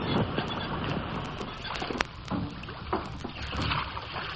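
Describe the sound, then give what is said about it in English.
Oars pull a lifeboat, just lowered from a ship with the captain aboard, through the water, with splashing strokes and creaks at an uneven rhythm over steady wind and sea noise, moderately loud, with no one speaking. “Then ready with your oars. Row!”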